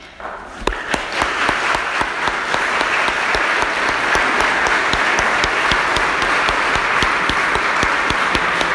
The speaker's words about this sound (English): So, as I said, you deserve a great round of applause from us who are visiting.